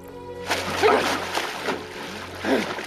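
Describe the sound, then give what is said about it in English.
A swimmer bursts up through the surface of a pool with a loud splash, followed by a couple of shorter splashes and sloshing, all with no talking. “He bursts up through the surface.”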